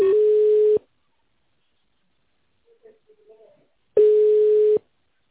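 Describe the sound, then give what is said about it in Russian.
Two long, steady ringback tones sound on a phone line as a call to a company is connected to a staff member or secretary, with a pause between them, a faint murmur of voice briefly filling the gap. “Пожалуйста, оставайтесь на линии. Происходит соединение.”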